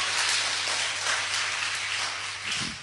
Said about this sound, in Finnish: Ja ihan kannattaisi vaikka aplodit antaa sille. Amen!